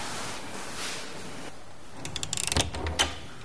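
A door in a dormitory is opened carefully at night by a wake-up service looking for the right bed number: a quick run of small latch clicks, then a soft thud and another muffled knock, all fairly quiet over a steady background hum.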